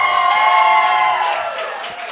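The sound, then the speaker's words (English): A big arena crowd in Nashville roars and cheers loudly and continuously on a Thursday night after the Predators' 6-5 hockey win over the Capitals, a dense wall of voices and whoops that stays strong before easing off slightly toward the end. “Just a typical Thursday night crowd in Smashville, Roman.”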